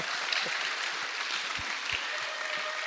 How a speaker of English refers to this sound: From the KETA graduating class of 2014. A KETA 2014-es végzős osztályával. And yeah, you can clap. That's awesome. Tapsolhattok, igen, ez nagyszerű.